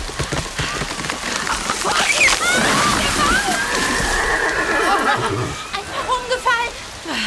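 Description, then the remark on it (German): A heavy rainstorm with strong wind, a dense, steady roar of pouring rain and gusts that fills the whole recording, with brief high whining, voice-like cries rising over it midway. “So einen Wind habe ich noch nie erlebt! Und erst der Regen!”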